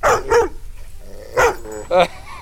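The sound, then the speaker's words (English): A dog barks in short, sharp yaps: two quick barks, a brief pause, then two more spaced barks, loud and clear against a quiet background. “I don't think she's gonna bark. She doesn't bark.”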